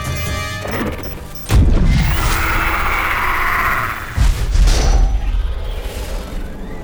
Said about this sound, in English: What was that? A sonic excavation charge. The worker bees on Mars didn't like the sound of a sonic drill, so I figured these soldier ants would react the same way.